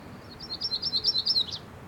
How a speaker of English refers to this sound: And that was a myrtle warbler.